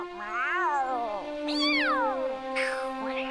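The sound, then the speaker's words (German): Two cats screech and yowl at each other in a fight in Zelda's garden, their drawn-out wailing cries rising and falling and overlapping, loud for a few seconds. “Als Vivaldi sich Zeldas Garten näherte, hörte er Katzenschreie.”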